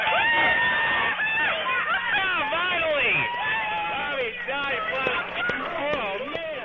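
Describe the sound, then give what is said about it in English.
A crowd of scientists and engineers in the control room at NASA's Jet Propulsion Laboratory in Pasadena erupts in loud cheering and whooping, with many overlapping excited shouts and continuous clapping and laughter, on confirmation that the Mars rover Spirit had landed safely on the Martian surface. “That was the sound from the control room at NASA's Jet Propulsion Laboratory in Pasadena when scientists and engineers had confirmation that their Mars rover called Spirit had landed safely on the Martian surface.”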